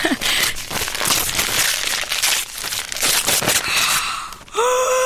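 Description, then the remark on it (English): Christmas gift wrapping paper printed with snowmen is torn open and crinkled in a steady, noisy rustle for several seconds, ending with a short excited vocal sound. “Oh, nice paper, snowmen. Oh, you've wrapped it well.”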